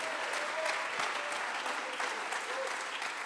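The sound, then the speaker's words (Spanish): An audience applauds in praise of God during a sermon, a dense, continuous wash of many hands clapping at a fairly even level throughout, with a faint murmur of voices underneath. “Clap your hands, lift your voice, magnify him.”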